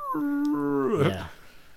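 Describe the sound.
A person does a hound impression, a single drawn-out howl that holds steady and then slides down in pitch, fairly loud, lasting under two seconds.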